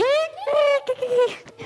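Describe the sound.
A person's voice imitates a rooster's crow in one loud, high, drawn-out call that breaks into a few quick syllables.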